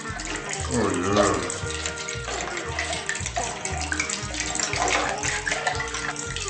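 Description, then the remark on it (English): Liquid pours steadily into a glass with a continuous splashing gush lasting several seconds, set against a thumping, rhythmic music track underneath. “A perfect pour.”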